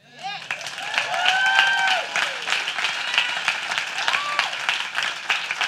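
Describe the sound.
A crowd breaks into sustained applause, dense steady clapping with voices cheering and whooping over it, holding at an even loudness for several seconds.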